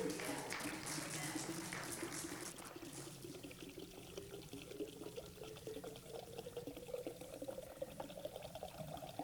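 Water pours steadily into a container until it overflows, the gurgling pitch slowly rising as it fills, a continuous splash that runs for several seconds with a faint hint of voices underneath.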